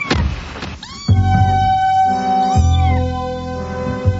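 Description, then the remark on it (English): Two drawn-out, high-pitched meows from a kitten, fairly loud, the second following a second or so after the first, with a brief rustle at the start. “A lonely old woman gets excited about a kitten, and you go to pieces.”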